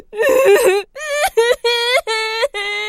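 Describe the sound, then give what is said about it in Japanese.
A person cries and whimpers in a string of loud, quavering sobs. Five or so bursts rise and fall in pitch, separated by short catching breaths, with no talking. “ねえ、ソレイユ泣いてるよ。”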